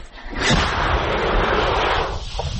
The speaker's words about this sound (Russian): Это миномет, да? Да.